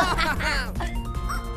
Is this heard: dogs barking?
yes